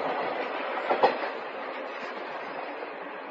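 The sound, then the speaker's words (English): Train number 4 for Shanghai leaves the station, rumbling steadily along the tracks with a continuous broad roar, a couple of brief clanks standing out near the start. No voices are heard. “Train number 4 for Shanghai is now leaving.”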